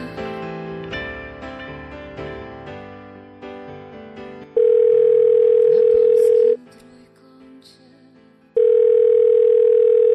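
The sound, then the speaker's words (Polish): A brief melodic jingle gives way to a loud, steady telephone ringing tone, heard twice for about two seconds each with a two-second silence between. “ale super, że dzwonisz.”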